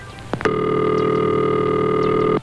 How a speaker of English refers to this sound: This is the ringing signal.